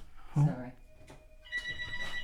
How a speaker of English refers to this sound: Where did the phone ring? Only in third verse